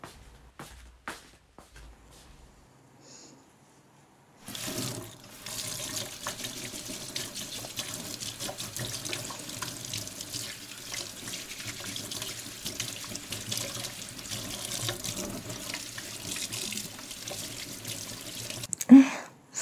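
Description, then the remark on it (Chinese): A few faint clicks, then a tap turns on and water runs steadily into a sink for about fifteen seconds, with light clatters of dishes as a mother washes up after a meal, before it stops. “乖宝宝，去吧，妈妈去洗碗。”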